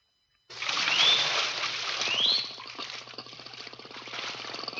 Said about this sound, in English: Can't you hear them? Can't you hear? You mean the dolphins? Of course I can hear them. Listen. Listen closely, please. I can hear the dolphins just as well as you do. But don't you understand what they're saying?